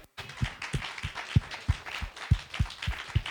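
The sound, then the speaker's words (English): A church audience clapping together as a praise to God, a clap offering, in a steady, unified rhythm of roughly three claps per second, with a dense wash of crowd noise filling the gaps between the sharp, punchy beats. “That's what you call a clap offering.”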